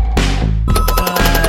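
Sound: telephone ringing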